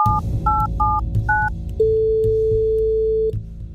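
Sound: telephone dialing tones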